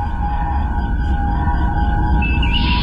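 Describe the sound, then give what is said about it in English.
A lift door, heard in an eight-hour recording uploaded to YouTube, grinds along with a low mechanical rumble and steady whining tones, then a higher squeal rises near the end as it moves. No one speaks. “Now, every so often you hear the door, the lift door.”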